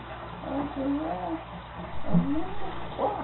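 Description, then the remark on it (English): A person's voice mimics yowling cats, drawing out several wavering, sliding cries over a few seconds, moderately loud, with no actual words spoken. “I said it was the cats or something under the house.”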